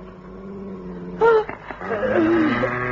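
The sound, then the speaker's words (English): A dog named Moscow growls low and steadily at 1 o'clock in the morning, then breaks into a sudden loud bark followed by a drawn-out, wavering bark, with no one talking. “For that night, it was 1 o'clock in the morning, Moscow began to growl and then to bark.”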